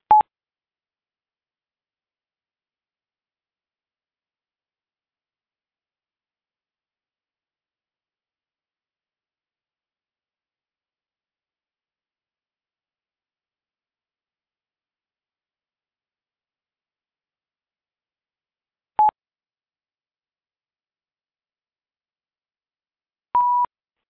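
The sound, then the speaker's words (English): Three short electronic phone tones sound in near silence as a call is hung up and reconnected: one at the very start, then a long quiet gap before two more brief beeps close together near the end. No voices. “Okay, let me hang up and see if that helps. I'll be back in a second.”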